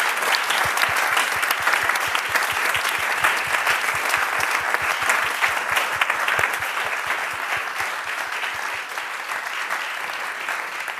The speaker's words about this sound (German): Vielen, vielen Dank. Und ich glaube, an dieser Stelle haben sich unsere Rednerinnen und Redner einen großen Applaus verdient.